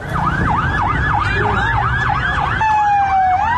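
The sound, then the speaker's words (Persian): Several fire engine sirens wail at once at night, heading toward Evin Prison where a fire has broken out; rapid overlapping yelps rising and falling steadily, loud, over a low rumble of engines and street noise; a steady horn-like tone joins near the end. “اینجا خودروهای آتش نشانی به سمت زندان اوین میروند.”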